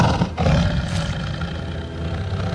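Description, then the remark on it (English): A tiger lets out a single deep, rumbling roar, loud, with a rough growling texture that swells and then trails off. No one is speaking. “The tiger knows who rules this part of the jungle.”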